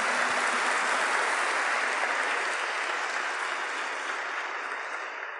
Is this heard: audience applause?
yes